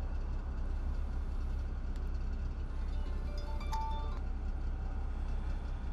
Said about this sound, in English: That's the road train just started up. He does that every morning at 4:30.